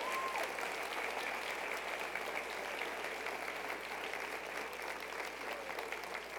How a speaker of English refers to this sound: How many of y'all got blessed? Come on, clap if you're going to clap.